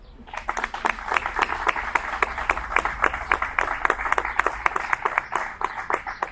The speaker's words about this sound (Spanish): Y desde aquí, desde este museo, Enrique Escudero de Castro, le brindamos un aplauso a su creador, nuestro Paquito.